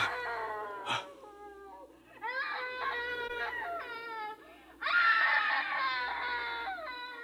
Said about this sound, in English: It's her, Dad. It's the screaming woman.